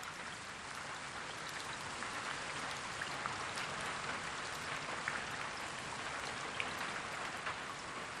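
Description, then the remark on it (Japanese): Steady rain falls continuously on a summer night, a dense hiss of countless drops with occasional sharper patters standing out, even in loudness throughout, with no voices. “夏の夜であった。雨が降っていた。”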